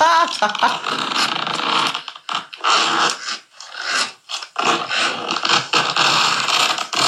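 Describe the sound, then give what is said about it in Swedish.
A zipper is pulled back and forth several times, producing loud, raspy bursts of ripping sound separated by brief pauses. “Det är en dragkedja man tar.”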